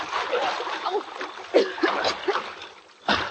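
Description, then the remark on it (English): Water sloshes and splashes continuously as people wade across a water-filled ditch about 20 feet wide, with a sharper splash near the end; moderately loud, no speech. “Let's get across that ditch. In the water?”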